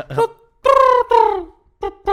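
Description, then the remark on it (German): A human voice imitates a pigeon's cooing: a short call, then two long, sliding hoots and two brief closing notes ending on a high note, fairly loud, with no other sounds. “Alle Tauben, alle von uns, aber, enden auf diesem hohen Ton.”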